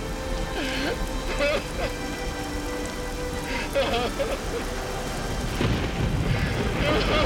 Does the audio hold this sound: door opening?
no